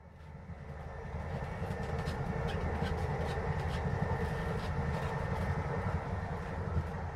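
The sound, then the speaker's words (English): A train rolls steadily along the rails, a continuous low rumble with faint rhythmic clatter and occasional higher rattles, heard from inside the carriage at moderate volume with no talking. “So this is Hazel on the train, thinking about the people that from time to time she catches reading a book.”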